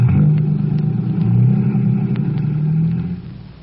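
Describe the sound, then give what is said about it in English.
A car engine rumbles loudly and steadily, revving slightly, then fades near the end as the vehicle pulls away. No voices. It is the fire chief's car, driven by Vito, leaving to drop Collins at firehouse 209 and then return to headquarters. “Well, climb into my car, Collins. I'll give you a lift in that direction.”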